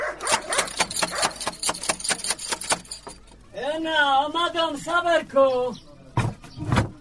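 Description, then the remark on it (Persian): A dog at a house barks several times in quick succession, following a burst of sharp metallic rattling and knocking as someone knocks on the gate. “اوهو این چی سگ خطرناک داره که نخوریم ما.”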